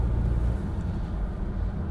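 vehicle, road traffic passing

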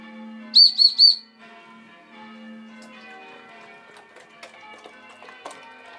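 signal or alarm, church bells ringing

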